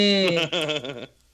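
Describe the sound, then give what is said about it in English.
A giant creature, shaking all over, lets out a loud, drawn-out moan, rich and tonal with a wavering pitch, lasting about a second before trailing away into quiet. “They hear the Balmera moaning.”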